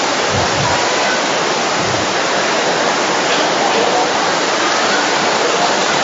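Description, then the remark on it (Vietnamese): Heavy rain pours down in a loud, unbroken hiss that fills the whole stretch, a dense steady wash of sound with no pauses or distinct drops. “Cố gắng nói to lên để những người ở xa có thể nghe được vì là trời đang mưa.”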